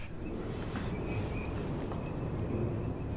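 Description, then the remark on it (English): Faint, thin whistling contact calls of teal ducks, repeated a few times at a high pitch, sitting above a steady low rumble of wind-like noise. No one speaks. “That lovely whistling sound is a teal, yeah.”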